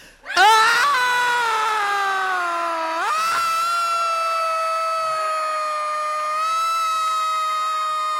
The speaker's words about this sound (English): Now, all together, we're going to scream like nobody ever screamed before. Start now.